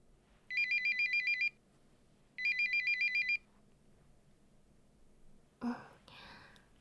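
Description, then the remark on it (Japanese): A phone ringtone for a work call sounds in two warbling electronic bursts, each about a second long with a brief gap between, clear, followed by a soft breathy gasp. “仕事の電話？じゃあもう行っちゃうの？”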